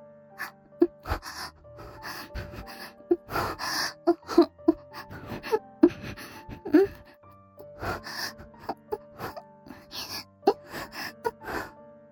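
A woman moans and gasps in a series of short, breathy vocal bursts, close and fairly loud, with brief pauses between them and no speech.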